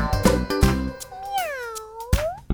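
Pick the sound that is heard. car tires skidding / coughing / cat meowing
cat meowing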